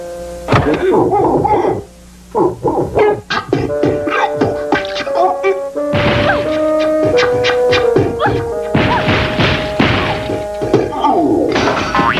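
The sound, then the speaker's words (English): A broken-down vehicle with a choked choke, sprung springs and lost bearings clanks and crashes loudly, with a rapid, irregular run of metallic bangs, thuds and rattles mixed with sustained squealing tones, continuing for several seconds with no one talking. “Sounds like his choke is choked. His springs have sprung, and he's lost his bearings.”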